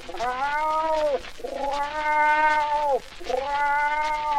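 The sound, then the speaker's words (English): A lynx lets out three long, wailing yowls in a row, each a rich, sustained cry that sags downward at the end, separated by brief pauses and with no talking. “Went the lynx.”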